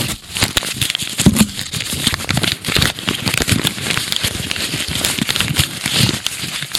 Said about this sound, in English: That's me crumpling up the entire agreement.